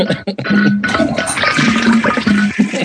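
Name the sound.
toilet flushing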